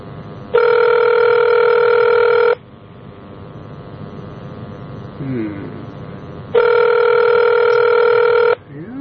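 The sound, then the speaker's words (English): Two long ringback tones from a telephone line as an outgoing call tries to reach a woman, each about two seconds, separated by a pause, steady and clear like an outgoing call waiting to connect, with faint background noise between rings. “Well, we got it ringing.”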